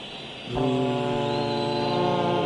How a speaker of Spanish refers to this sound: ¡Ponme la sirena del barco,